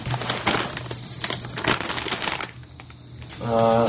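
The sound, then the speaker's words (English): A busy clatter of four dice being rolled, with sharp clicks and rattling over a couple of seconds, then settling as a low hum or voice comes in at the end. “Let me see 4 of them dice.”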